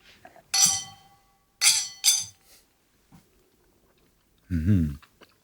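Glasses of a foam-topped cold brew coffee drink clink together in a toast, a few bright ringing taps, followed by a short pause and then a brief voiced sound from someone.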